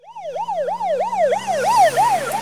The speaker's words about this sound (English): Watch out! It's a police car.